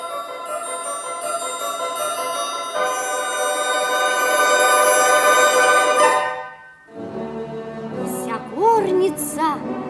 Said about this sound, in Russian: Вдруг раздался звон серебряный.